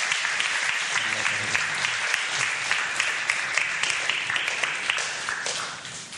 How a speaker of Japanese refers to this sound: Let's give Jesus a thank you right now. イエス様に対して拍手しましょう。